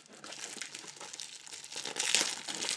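Crinkly plastic wrapper rustles and crackles steadily for a few seconds as a box of chocolates is opened, the crisp crackling growing a bit louder toward the end, with no talking.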